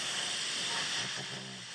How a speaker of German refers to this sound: Ich kann euch mal schnell noch einen Schnarcher vorspielen.